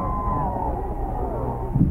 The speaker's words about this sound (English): receiving with his usual modest demeanor the plaudits of this huge crowd. Now listen to this cheering.